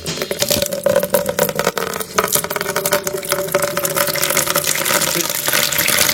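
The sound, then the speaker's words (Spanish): A water sound effect: a loud, steady rush of water pours continuously for several seconds, dense, like a running tap or stream, with no voices over it. “¿Tenemos más sonido acá de agua? A ver, Pepe Grillo, tira otro sonido acuático”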